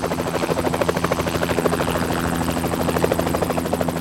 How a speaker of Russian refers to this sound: И вертолет улетел.